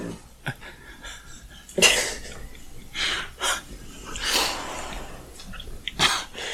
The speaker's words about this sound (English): There's a lot of dog grunts and groans that don't make it to the final cut.